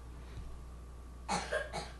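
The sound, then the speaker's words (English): Three quick, rough coughs burst out in a row near the end, not loud, following a stretch of quiet room hum with no talking. “This coughing's got to stop.”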